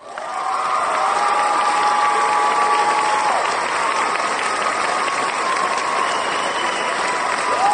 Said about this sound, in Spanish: Chicos, denle un aplauso aquí a